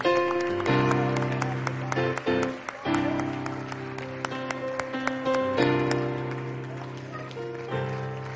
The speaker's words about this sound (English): clap our hands unto Jesus Christ.